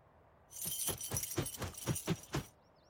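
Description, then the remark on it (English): A bunch of keys brought by a raven jangles in a steady shaking rhythm, about eight bright metallic jingles over two seconds, then stops; a brief faint chirp follows in the quiet. “And are those keys?”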